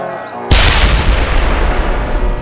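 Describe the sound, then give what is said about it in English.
After a brief quiet moment, a sudden loud explosion blows apart a wagon at a road blockade, sending pieces flying in all directions, followed by a sustained roaring, crackling rumble that stays heavy until the end. No one speaks. “The explosion sent bits and pieces of the wagon flying in all directions and lifted the second wagon up and over the edge of the road.”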